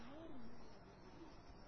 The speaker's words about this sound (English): Is not this chirping of the birds enough?